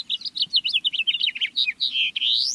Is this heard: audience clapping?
no